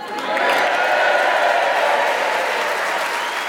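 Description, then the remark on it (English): A large theatre audience at the Harrogate Theatre in Harrogate, Yorkshire, applauds steadily at the start of an edition of Just a Minute, a dense wash of clapping that swells quickly and holds at full strength, with a few faint cheers mixed into the crowd noise. “And we have a warm, passionate Yorkshire audience in front of us, ready to cheer us on our way as we start the show this week with Tony Hawks.”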